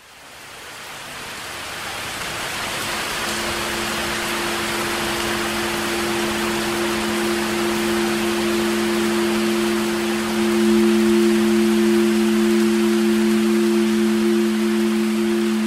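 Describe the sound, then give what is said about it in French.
Heavy rain pours down in a dense, continuous hiss that swells in over the first seconds, joined soon after by a low, steady hum running underneath until the end. “Là, il pleut, il mouille vraiment beaucoup et c'est dangereux.”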